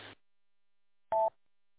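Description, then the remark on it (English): A single short electronic beep, a radio repeater's courtesy tone, a steady mid-pitched tone lasting a fraction of a second, sounds after a brief burst of noise and a stretch of near silence, with no talking. “Yeah, I mean, bottom line, not really a real purpose to the beep other than it just beeps.”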